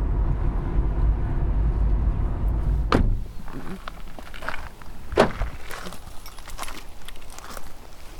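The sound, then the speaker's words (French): Footsteps crunch at an irregular pace as someone walks along an outdoor forest path, following a few seconds of steady low rumble at the start. “Voilà, là nous sommes sur le chemin de la forêt qui mène à la place préférée où elle aimait bien se promener maman parce qu'elle avait vu sur le village, elle a vu sur la forêt qu'elle adorait.”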